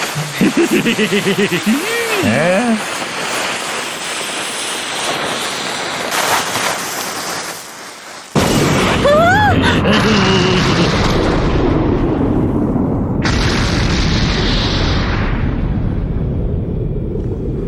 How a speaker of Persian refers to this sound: اون انفجار دیگه چی بود؟ همچین انفجاری حتما بمب کاپیتان باگیه.